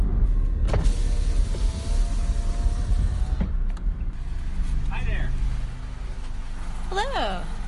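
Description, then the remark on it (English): A car drives past a golf course toward the main gate of a state park in Indianapolis on a weekday afternoon, with a steady engine and road rumble heard from inside the vehicle, while a power window whirs and brief voice-like chirps rise near the end. “we're driving right past the golf course right now”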